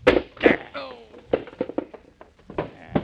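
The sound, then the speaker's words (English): A chair is smashed over a man in two loud, splintering cracks, followed by a short voiced groan and a scatter of lighter wooden knocks and clatters over the next few seconds. “Here, I'll get him with this chair”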